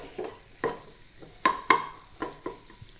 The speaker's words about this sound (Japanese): そうしたらここで今10秒ほど混ぜましたかね、鍋の全体に行き渡るように混ぜます。